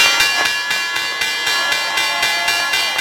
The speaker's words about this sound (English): And while it's not the same as it was decades ago, you can still feel the energy peak every morning at 9:30 sharp, when the bell signals the opening of the markets.